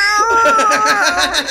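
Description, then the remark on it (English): A person imitates a cat in heat, letting out a loud, continuous wavering yowl with a pulsing, warbling rhythm, with no other talk. “you making them a cat in heat really just takes the hot out of it.”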